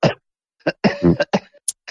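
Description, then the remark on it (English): A quick run of short, rough coughs, five or six bursts broken by brief pauses, with a faint breathy hiss near the end. “Even that makes me cough.”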